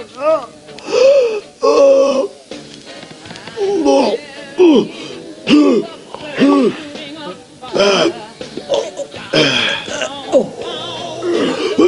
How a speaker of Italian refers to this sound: È meglio tossire.